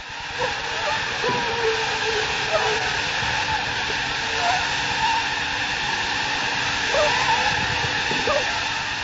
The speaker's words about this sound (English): The mosquitoes you just heard carry malaria. They're in a container at the research laboratory of the Swiss Tropical Institute in Basel.